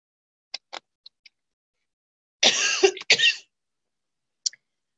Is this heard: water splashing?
no